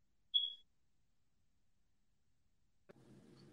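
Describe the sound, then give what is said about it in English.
A phone gives a single short, high electronic ring tone from an incoming call, clear, followed by quiet and then a low muffled rumble of background noise. “They calling that phone.”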